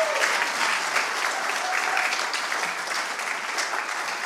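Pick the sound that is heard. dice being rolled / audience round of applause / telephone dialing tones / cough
audience round of applause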